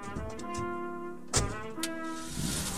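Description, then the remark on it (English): A truck that has been sitting in a clearing starts to rev with a steady, droning hum, briefly punctuated by a couple of sharp mechanical clunks, then keeps revving at an even level as it drives away, with no voices. “And then the truck that's been sitting in the clearing starts to rev, and it's gone.”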